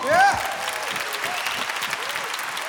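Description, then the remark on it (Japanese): Steady, dense applause from a large audience at a live stage show as the band members are introduced, with a brief whistle or cheer rising near the start before the clapping settles into an even roar. “盛大な拍手で。”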